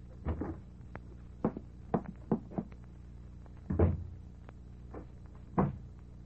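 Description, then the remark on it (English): A door is opened, with a series of sharp wooden clunks and rattles spread over several seconds and a louder thud near the end. No one speaks. “the opening of this door introduces us to another in the series, the key”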